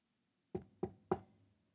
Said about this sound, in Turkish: Kar taneleri yeryüzüne inmeye hazırlanırken bahçedeki su kuyusunun yanından geçerek kulübenin kapısına hızlı hızlı ulaşmış ama kapıyı sakin sakin çalmış.